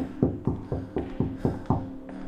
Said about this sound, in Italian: Provo a bussare, ma nessuna risposta. Busso ancora.